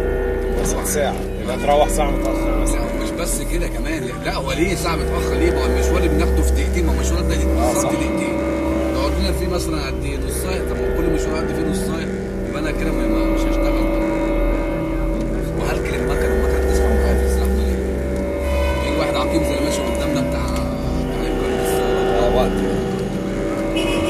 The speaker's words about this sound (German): Die Taxifahrt, oder besser das Stop and Go, geht weiter. Und ich sage, dass dieser ganze Verkehr ihm doch mindestens eine Stunde klaut. Jeden Tag.